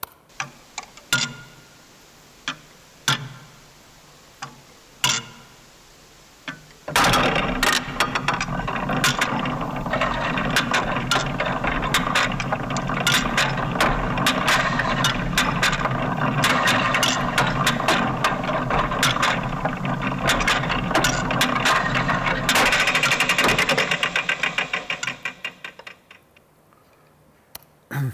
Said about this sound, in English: And this is what the accelerometer hears every quarter of an hour when the chimes ring. This is sort of the sound of the mechanism of the great clock as it's giving a command for the bells to ring.